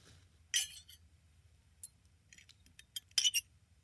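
Glasses clink together in a toast: a bright ring first, then a few lighter taps and a final cluster of sharp chimes over a low background hum.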